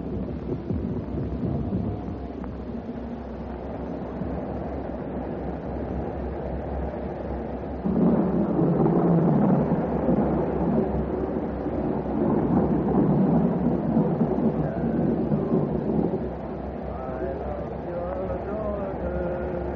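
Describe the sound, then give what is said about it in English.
Steady rain hisses throughout while a long, heavy roll of thunder swells up midway, rumbling loudly for several seconds before fading back into the downpour. “They said there'd be a storm tonight. It looks like it's on the way.”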